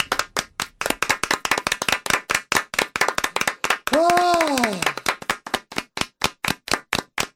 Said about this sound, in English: Oh my God, no, there's still more clapping to do.